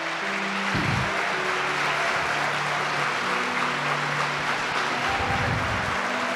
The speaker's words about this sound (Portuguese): Você pode louvar a Deus por isso, irmãos? Todo mundo, isso, aplauda o Senhor mesmo.